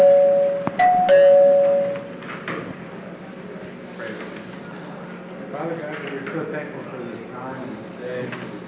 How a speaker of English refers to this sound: The bell's about to ring, so we'll just start with a prayer.